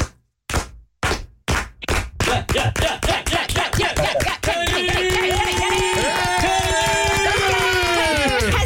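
A 'Rudy clap' after a PowerPoint presentation: a lone slow clap, sharp single claps spaced apart, speeds up steadily as more hands join, then breaks into loud continuous applause with cheering and whistles layered on top.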